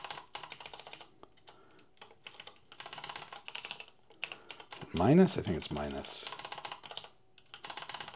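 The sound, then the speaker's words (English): Steady computer keyboard typing clicks in quick bursts with short pauses, while a person speaks briefly in the middle, their voice rising over the keystrokes. “Get my typing right here.”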